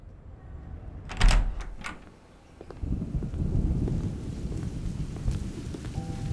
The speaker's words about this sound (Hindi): बारिश बहुत तेज होने लगी। मेरे रूम की खिड़की खुली थी जिससे बारिश का पानी अंदर आ रहा था